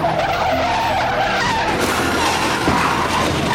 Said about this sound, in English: Thinking his push bars could ram a civilian out of the way, the suspect goes full throttle into the unsuspecting motorist.